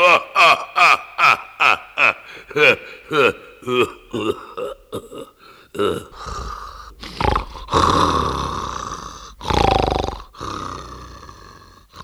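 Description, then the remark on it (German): A voice imitates loud, booming snoring: a quick run of rhythmic grunting breaths, then several long, rasping, roaring snores, heavy, each swelling and fading. “Da hockten wir zitternd und schlotternd unter der Steinbank, während über uns der Unhold laut und dröhnend schnarchte wie ein Trompeten des Walross.”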